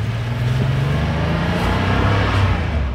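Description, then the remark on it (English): A Porsche sports car engine, mounted behind the rear axle, runs loud, its deep throaty drone holding steady with slight rises in pitch as it revs, with no voices over it. “Engine hung way out back behind the rear axle, really fun to drive, really hard to drive well.”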